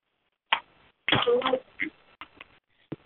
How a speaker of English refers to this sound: Please click mute your phone because I'm hearing the dishes being smashed together.